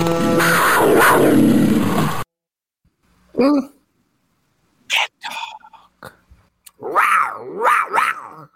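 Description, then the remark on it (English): After a short burst of dense, loud noise, a person imitates a cat on 560 WQAM radio, with a low growl followed by several drawn-out, rising and falling meows. “Give me a little cat talk”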